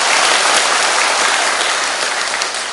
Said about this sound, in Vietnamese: Quá giỏi, cho tràng pháo tay lớn.